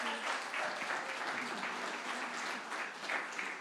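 A crowd claps steadily in welcome and thanks, producing a dense, sustained wash of many overlapping hand claps at an even, fairly loud level throughout, with no pauses or voices rising above it.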